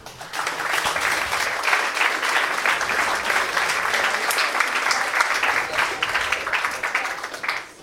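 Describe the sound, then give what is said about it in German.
Sustained applause from an audience of over 100 people for the presenters after their project presentations, many hands clapping in a dense, steady patter that holds at an even level for several seconds before tapering slightly at the end. “Einmal noch Applaus an euch alle.”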